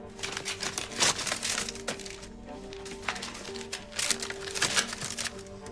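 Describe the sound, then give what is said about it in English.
Busy paper sounds from a mound of letters by the door: envelopes of bills ripping open with sharp tears and crinkles, then papers rustling and being tossed aside in quick, uneven bursts, with no voices. “He tears open bills and tosses them aside.”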